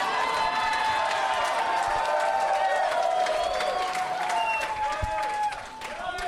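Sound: audience cheering and applauding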